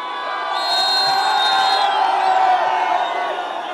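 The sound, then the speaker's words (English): A large crowd celebrating in the streets as an elite army unit joins them cheers and shouts continuously, a dense wall of voices with high whoops and whistles rising over the steady roar, loud throughout. “Crowds erupted in celebration when an elite army unit joined them on the streets.”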